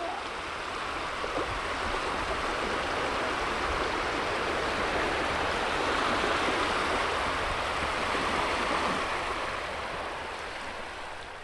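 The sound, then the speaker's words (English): Steady rushing of the flowing water of the Ganges river in India, a dense, even wash of sound that holds at a constant level throughout, with no voices. “Philip Reeves, NPR News, beside the Ganges.”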